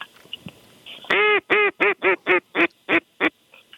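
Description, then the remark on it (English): A run of about eight loud, nasal quacks from canvasback ducks, about four or five birds coming in over a duck blind, in quick, steady succession and clear, with faint background noise and no talking. “We got some action coming in on the Cajun Fishing Adventures duck blind. Canvas back.”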